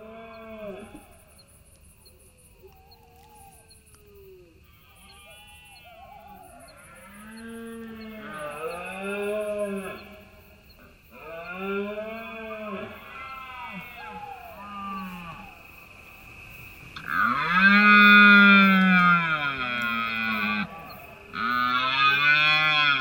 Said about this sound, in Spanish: Es todo un espectáculo. Claro, aquí se oyen muchas cosas. Aquí se oye a los ciervos en esa berrea, que además los montes de Álava se han cerrado al tráfico, solo imprescindible para dejar a los ciervos tranquilos con su berrea, con su apareamiento.